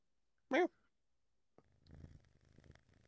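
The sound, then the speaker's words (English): A cat purrs with a low, steady rumbling that runs through the second half, shortly after a brief loud cry near the start. “This dude got a cat.”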